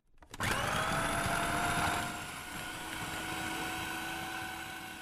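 A food processor whirs to life abruptly and runs steadily with a loud, high-pitched motor whine, dropping slightly in pitch and intensity after a couple of seconds as it keeps spinning, blending a mixture just poured into it.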